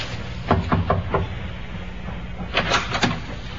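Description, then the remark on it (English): A ship's captain knocks on a passenger's cabin door aboard a ship: a quick run of four raps, a pause, then another three or four firm knocks, crisp against a low background hum. “Captain knocked.”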